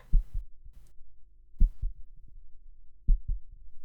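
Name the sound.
heartbeat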